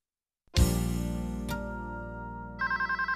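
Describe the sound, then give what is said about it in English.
A resonant clang rings out and hangs in the air, then a telephone at the firm Advanced Technologies starts ringing with a fast, pulsing electronic trill as a phone call comes in. No one speaks. “Let's listen to Mr. Jefferson answering a phone call at Advanced Technologies.”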